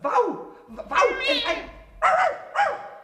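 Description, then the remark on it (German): A human voice imitates a big dog barking, four loud, gruff woofs, the second one drawn out longer, with short pauses between them. “Ich bin ein Hund. Jawohl, ich bin ein riesiger Hund.”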